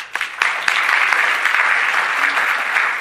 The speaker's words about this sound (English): and to come out and take part in this annual Mayor's Unity Breakfast, you all deserve a round of applause.